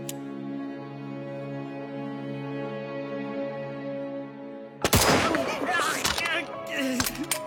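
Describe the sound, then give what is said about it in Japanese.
A steady droning tone holds until a sudden, loud gunshot cracks through as a shooter fires at a criminal after being given permission to fire, followed by chaotic noisy commotion with a couple more sharp bangs near the end. “発砲を許可する。撃て。”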